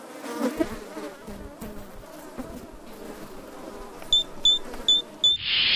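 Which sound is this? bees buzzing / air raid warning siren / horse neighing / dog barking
bees buzzing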